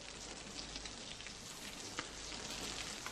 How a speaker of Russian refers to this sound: Илья Семенович встает и идет к окну, за которым льет дождь